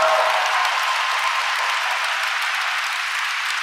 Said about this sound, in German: Applaus, Applaus, Applaus.